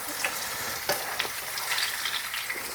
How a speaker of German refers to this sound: Also ich habe Marshmallows, glaube ich, noch nie in Fett reingeschmissen. Marshmallows über Feuer habe ich auch schon gemacht, ja. Ja, ja, klar. Aber ich habe eigentlich sowas Ähnliches erwartet, dass man Marshmallows geil frittieren kann.